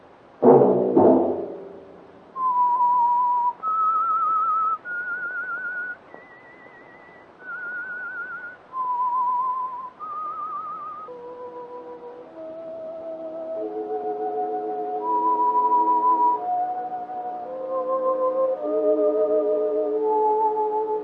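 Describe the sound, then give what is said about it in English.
A slow, eerie whistled melody of long held notes rising and falling, clear, with fuller musical accompaniment swelling underneath in the second half. No one speaks. “That whistle be your signal for the Signal Oil program, The Whistler, each Wednesday night at this same time.”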